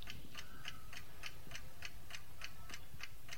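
An old-fashioned clock with a 12-hour dial ticks steadily on a mantelpiece, about eight crisp, bright ticks at an even pace of just over two per second, alone over a soft low background hum.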